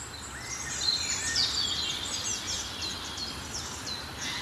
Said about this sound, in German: Und hinter uns ist der Waldlaubsänger. Eben schon mal erwähnt, der macht die... Und dann hat er noch so einen hohen Pfeifton. Den ich jetzt nicht zu laut nachmachen will. Nicht dieser laute Pfeifton.